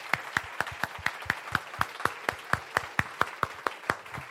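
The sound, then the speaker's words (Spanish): Steady, rhythmic hand clapping in unison for God, done with full strength, crisp, about four sharp claps per second keeping an even beat with no talking over it. “Pero cuando queremos aplaudir a Dios, we want to clap to the Lord, we do it with all of our strength.”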